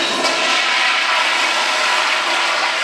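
toilet flushing

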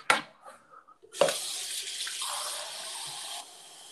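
water running

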